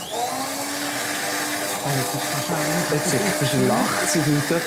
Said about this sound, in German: Was ich noch spannend finde, viel Köche, oder jetzt auch hier, du tust aufschäumen mit einem Mixer. Stadtmixer, ja.